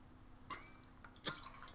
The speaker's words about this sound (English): Excuse me, I just need to drink a little water towards the beginning, and after that I'm fine. My mouth tends to get a bit dry.